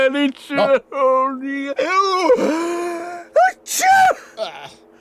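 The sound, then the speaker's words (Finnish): A drawn-out build-up of voiced, gasping inhales gives way to a loud, breathy sneeze burst inside a spacesuit helmet near the end, followed by a brief trailing sound. “Aivastaan nyt kypärän sisään.”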